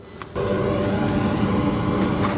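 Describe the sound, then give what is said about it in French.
A ship's engine in the port of Tórshavn kicks in after a brief quiet moment, then runs as a loud, steady low rumble with a dense mechanical drone that holds unchanged to the end. “Maintenant on va aller écouter le moteur.”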